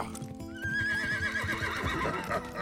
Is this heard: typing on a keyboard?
no